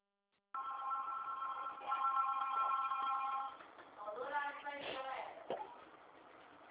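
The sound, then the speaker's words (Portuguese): A telephone rings with a steady electronic trill for about three seconds, thin and band-limited as if heard over a phone line, followed by muffled, indistinct voice-like sounds. “espera só um pouquinho também, tem um telefone aqui.”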